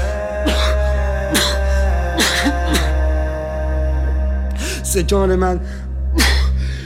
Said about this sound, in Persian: سرفه هایم ز سرما یا ز درد نیست، گرد و غبار عشقی قدیمی است.